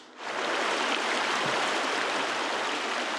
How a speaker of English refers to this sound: Last stop is a waterfall in Upper Blackburn Creek named after Sylvanus Blackburn, who built War Eagle Mill in Benton County back in 1832.